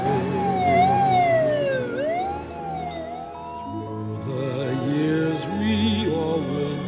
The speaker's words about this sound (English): As the police car reverses into the road, Kevin catches Harry's eye and waves him farewell with a beaming grin.